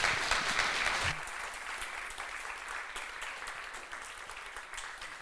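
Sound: applause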